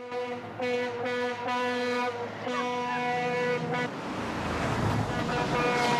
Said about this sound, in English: A lorry heading for Annie.